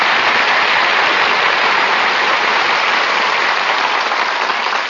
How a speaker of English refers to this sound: Now, wait a minute, Miss Russell. This is a restaurant. Who's applauding you? The waiters. I'm a heavy tipper.